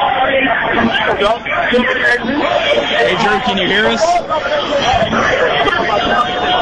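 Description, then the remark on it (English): Loud, continuous crowd chatter and yelling from a rowdy clubhouse celebration, heard through a thin, phone-like line, with one voice calling out above the din. “I don't know if you can hear me amidst all the yelling, but just give me an idea of what kind of chaos and celebration is going on right now.”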